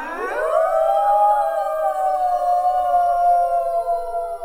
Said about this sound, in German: Ja, genau, es heißt heulen. Wolfsgeheul ist aber nichts Trauriges. Nein, sie machen damit nur klar, wir gehören zusammen. Das hier ist unser Revier, unsere Gegend zum Jagen und Leben. Andere Wölfe können das bis zu 10 Kilometer weit hören.